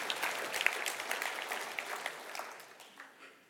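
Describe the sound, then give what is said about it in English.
An audience applauds with dense, crackly clapping that holds steady for a few seconds, then thins and fades out toward the end. Nobody speaks over it. “I'll say that again because I don't usually get applause.”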